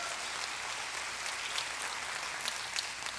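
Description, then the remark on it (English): An audience claps together in praise of God for his mercy, sustained applause, a dense, steady wash of many hands with a few sharper claps standing out. No one speaks over it. “Again, can we give God a hand clap of praise for his mercy he displayed on a cross?”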